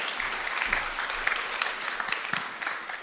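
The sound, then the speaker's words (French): An audience at a session in La Réunion applauds to welcome the next speaker onto the stage, a dense wash of many hands clapping at once with no voices on top, holding an even moderate level for the whole stretch. “Oui, vous pouvez applaudir chaleureusement, s'il vous plaît.”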